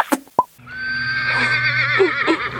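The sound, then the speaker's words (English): A Shetland pony lets out a loud, drawn-out whinny with a wavering, quivering pitch, preceded by a couple of brief sharp knocks, with no talking. “You've got, I know, a lot of sound effects in your library, well, but it was a Shetland pony, to be fair.”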